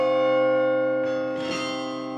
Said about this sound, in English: The largest bells have clappers so heavy, Stone slams her feet down on the pedals.